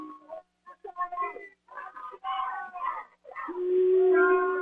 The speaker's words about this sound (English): And the Boo Birds are out at Nevada Union.